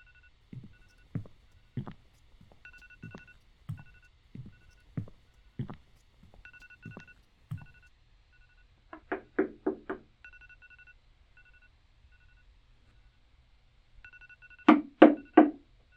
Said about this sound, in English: What the fuck? I thought I shut off my alarm. I did. What the hell is that sound? Oh, you have got to be kidding me. Of course it's her alarm.